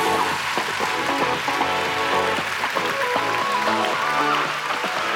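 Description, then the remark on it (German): A crowd at the Deutscher Jugendliteraturpreis 2022 ceremony applauds steadily as the prize goes to the children's book Die Suche nach Pauli Fink, a dense, even roar of clapping with scattered voices cheering through it, holding loud and level without fading. “Da in dieser Reihe, ja, jubeln Sie sich gerade zu.”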